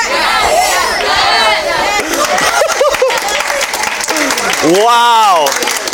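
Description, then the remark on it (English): A crowd applauds with steady, dense clapping throughout, mixed with cheering and excited voices, including a rising whoop near the end, in response to the opinion that Star Wars is better than Marvel. “Star Wars is better than Marvel. To applause.”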